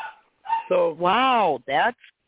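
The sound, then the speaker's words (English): A dog named Chico vocalizes in four loud bursts, the middle ones drawn-out, wavering yowls that rise and fall in pitch, more like talking barks than sharp yaps, with no people speaking. “He just said I heard him because I'm a good dog interpreter.”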